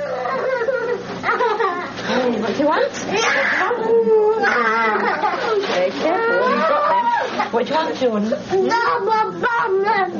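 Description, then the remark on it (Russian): A child's tantrum: sustained, uncontrolled high-pitched screaming and wailing sobs, loud and continuous for about ten seconds, with rising and falling cries and brief catches of breath. “Тантрум. Называется то, что вы слышали. Неконтролируемая вспышка раздражения, истерика.”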